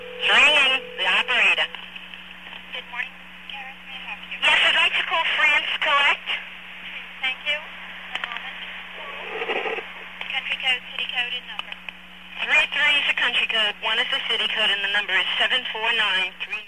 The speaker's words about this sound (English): Now, you hear that? Yeah, those are MF tones, and... That was the old AT&T system.